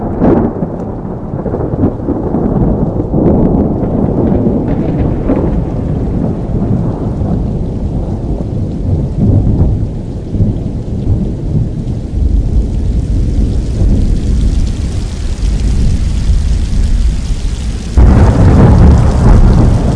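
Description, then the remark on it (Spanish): A thunderstorm rumbles on, with deep rolling thunder over steady, hissing rain; a louder crack of thunder swells near the end. No voices are heard. “Ya tenemos al otro lado del teléfono, después de esta tormenta”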